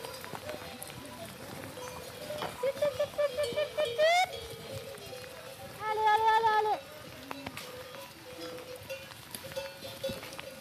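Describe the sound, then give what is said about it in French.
A herd of goats moves down a steep mountain slope in a forest, with two loud, wavering bleats rising over a steady patter of rain and scattered shuffling hoof steps. “La pluie, il y a un truc qui se passe en plus, c'est que les chèvres, c'est des bonnes meneuses normalement.”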